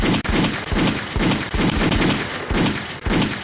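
gunshot sound effects

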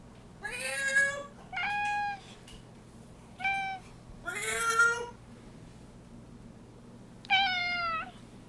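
domestic cat meowing

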